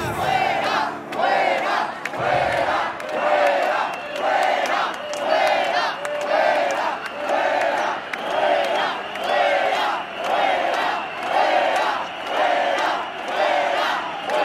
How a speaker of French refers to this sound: Deux quarts de police qui sont rapprochés de la manif et tout le monde crie dehors, dehors.